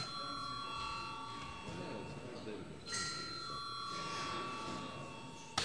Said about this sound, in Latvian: Deputātiem ir iebildumi, līdz to nepieciešams balsojums. Lūdzu zvanu.